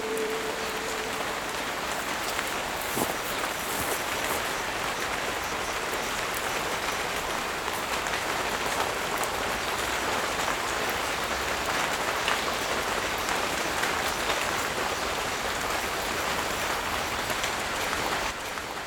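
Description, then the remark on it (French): Greenhouse irrigation sprays water in a steady, rain-like hiss with a dense patter of droplets, constant for the whole stretch, with no voices. “En fait, dans ta serre, tu recrées les conditions de la pluie, quoi.”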